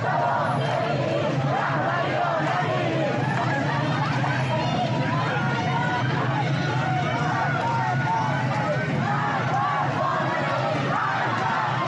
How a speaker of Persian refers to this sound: معترضان در مشهد در قالب جمعیتی بزرگ علیه کل نظام و اصل ولایت فقیه شعار دادند و در یکی از تصاویر یک ماشین نیروی انتظامی را واژگون می کنند. صدای برخی از این تصاویر را بشنویم.